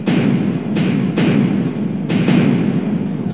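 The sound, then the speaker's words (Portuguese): The cannons of a fleet of warships in front of Praça do Paço, between Rio de Janeiro and Niterói, Brazil, firing in a series of heavy booms, several blasts in quick succession over a constant rumbling roar, loud and dense with no voices. “Todos os navios de guerra dispararam seus canhões.”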